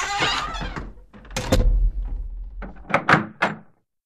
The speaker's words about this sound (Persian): کلید در قفل چرخید. در قفل شد.